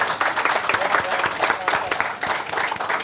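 An audience breaks into a steady round of applause, dense overlapping claps sustained evenly for a few seconds with no voices on top.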